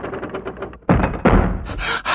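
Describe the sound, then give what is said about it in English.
Two boys breathe heavily, then a loud crash as a drawbridge slams down, two booming impacts in quick succession followed by a rough, hissing rumble. “"It's the drawbridge!" cried Robert. "It's down!"”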